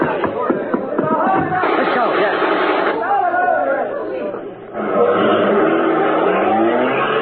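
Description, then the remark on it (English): A car engine revs and pulls away during a getaway, its rising drone mixed with overlapping voices and general commotion, loud throughout. “Come on, back the car.”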